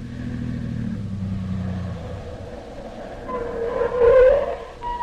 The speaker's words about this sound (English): Wait. That must be Dr. Christian's car now.